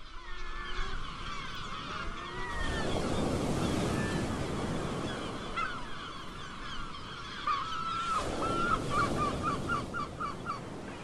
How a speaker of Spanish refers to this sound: Vaya, vaya, aquí sí que hay playa. Playa y unos cientos o miles de gaviotas patiamarillas en la isla de Cabrera pegando gritos ahí detrás.